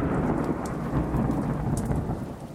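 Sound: rain with thunder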